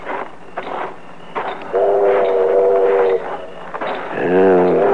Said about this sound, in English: The train's pulling in. Let's get on it and get out of here.